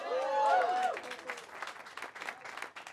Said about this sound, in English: I heard some nopes, some claps. That is the thing about Hereditary. It's very either you love it or you hate it. There's no in between.